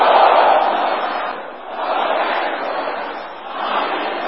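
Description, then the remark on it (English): A crowd at a prayer shouts loudly together, calling out "road blockers, progress blockers, money blockers" in a sustained, dense roar that swells in waves, dipping briefly twice before surging again, with no single voice standing out. “Can you shout those three things loud?”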